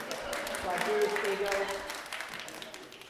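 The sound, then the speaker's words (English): A crowd breaks into steady applause, a dense wash of clapping that holds for a few seconds with some voices calling out underneath, then begins to thin toward the end. “And I need a round of applause for that.”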